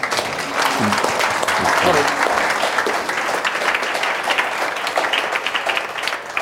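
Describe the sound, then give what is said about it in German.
Audience applause welcoming a guest speaker fills the whole stretch, a dense, steady wash of many hands clapping at a fairly loud level, with faint voices briefly audible underneath early on. “Bitte um einen Applaus.”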